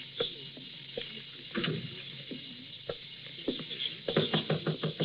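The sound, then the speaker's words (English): Knocking on a door: a few scattered, hollow raps, then a quicker burst of about half a dozen knocks near the end, all fairly soft over a steady low hiss. “All right, knock it. I'm coming.”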